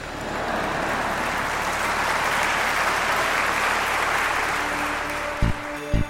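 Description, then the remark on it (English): An audience claps steadily for several seconds, a dense, even wash of many hands. The applause fades near the end, where a couple of sharp knocks sound before it stops. “I'll take four claps today.”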